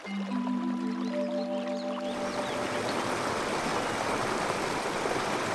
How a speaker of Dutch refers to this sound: Het stromende water maakt geluid.